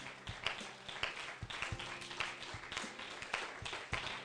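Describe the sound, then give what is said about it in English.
An audience bursts into dense, sustained hand clapping in praise to God, many overlapping claps forming a loud, steady wash with sharper individual claps popping out now and then. “Let's give our God a hand clap of praise.”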